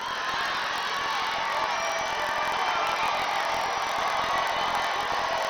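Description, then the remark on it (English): A large crowd at a Donald Trump rally roars and cheers steadily for several seconds, a dense, loud wash of many voices with no single speaker standing out. “So again, the crowd really loving it, just absolutely loving that. So a wild rally.”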